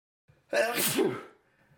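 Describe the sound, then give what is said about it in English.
A single sudden sneeze bursts out, loud and breathy with a sharp rising onset, then trails off into quiet. “Bless you. God, the bless dust you. In here.”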